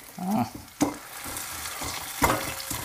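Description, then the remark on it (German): M&M's being crushed and ground in a granite stone mortar: gritty scraping and crunching, with a few sharp clacks of the pestle striking, fairly loud and steady, no talking. “So, ich mörser jetzt M&M's. Das wird auch richtig schön laut.”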